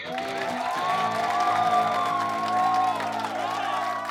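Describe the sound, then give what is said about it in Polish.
A large crowd roars with sustained cheering, whoops and shouts, a dense wall of excited voices that stays loud and steady throughout, like fans at a live concert. “Kiedy zabrzmiały pierwsze akordy, tłum po prostu zwariował.”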